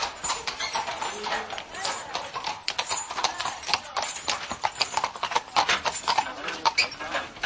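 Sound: horse hooves clip-clopping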